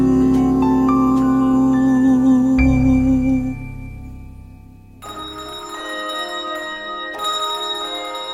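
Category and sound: signal or alarm, bells ringing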